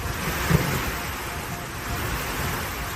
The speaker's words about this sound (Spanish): Esta tarde así se escuchaba el agua caer en Sevilla y también en Melilla. En tan solo 30 minutos las calles se han convertido en ríos.